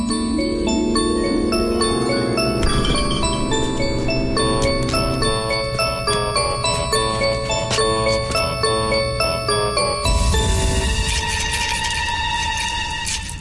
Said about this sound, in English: Okay, now you guys go play, and I'll ring my bell and drive by just like the real ice cream man.